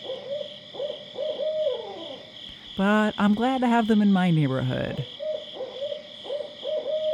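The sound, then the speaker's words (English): A loud burst of wild, cackling hoots from owls of a species native to the northeastern U.S., several birds calling over each other for about two seconds, set against a steady high insect drone, with a man speaking before and after. “They're very vocal, and sometimes their calls sound quite rambunctious.”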